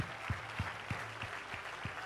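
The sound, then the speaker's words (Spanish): A church audience applauds for the Lord, the crowd's steady clapping carrying a regular thumping beat about three times a second, like rhythmic clapping in unison, with no voices heard. “Fuerte el aplauso para el Señor.”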